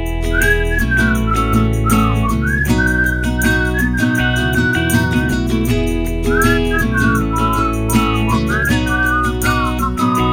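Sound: whistling solo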